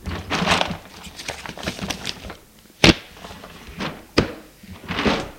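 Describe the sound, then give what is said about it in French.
A drawer scrapes open with rustling handling noises as a man with trembling hands takes out a pad of paper, then sets it down on a table with two sharp knocks amid scuffing and sliding sounds, no voices. “de ses mains tremblantes, sort un bloc de papier du tiroir et le dépose sur la table.”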